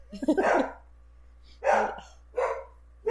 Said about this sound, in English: Is that dog? Yeah, it's dog.